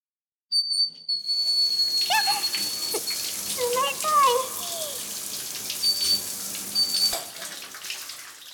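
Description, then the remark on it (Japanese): A steady rush of cold shower water spraying and splashing onto a body, continuous for several seconds, with brief high squeaky whistle-like tones and gurgles flickering through the hiss. “もう、お兄さんたら、いくら気恥ずかしいからって、いきなり冷水のシャワー体にかけなくても。”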